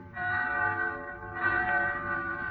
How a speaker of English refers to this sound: So one night I'm in town in Pensy. Bells. I hear bells. What? And then it catches at my throat. It's New Year.